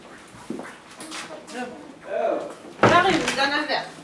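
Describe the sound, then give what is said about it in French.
Doors creak open and swing shut, their hinges squealing in wavering tones, with a soft thud partway through and a louder bang followed by more creaking near the end. “C'est des portes qui s'ouvrent et qui se ferment.”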